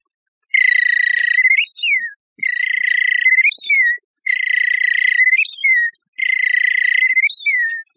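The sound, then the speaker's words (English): A whistled imitation of a robin's evening whistle repeats four times in an even rhythm. Each phrase is a sustained, slightly buzzy tone ending in a quick downward slur, loud with no other sounds. “In the evening he whistles like this.”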